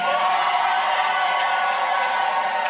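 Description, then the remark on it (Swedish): Supporters of Petteri Orpo and his National Coalition Party cheer at an election-night party in Finland after a big victory in Sunday's election: a dense, steady roar of many voices with scattered whoops rising out of it, and no one speaking clearly. “Ja, här sa han, vet ni vad, det blev en stor seger och anhängarna jublade på valvakan.”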